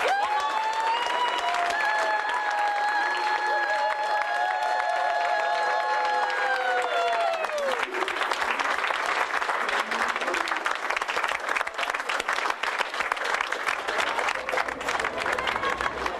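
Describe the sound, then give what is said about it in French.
A small group, a band backstage at the Olympia just before going on stage for a concert on 7 October 2012, bursts into sustained cheering, with high whoops and held shouts, then settles into steady clapping that continues loudly to the end. “Et on peut se féliciter et s'applaudir.”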